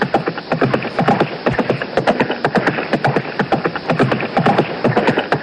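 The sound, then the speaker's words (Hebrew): Galloping horse hooves pound out a fast, steady rhythm of sharp thuds, loud and continuous throughout, with no voices over them. “קדימה, קדימה, הסוסים דוארים.”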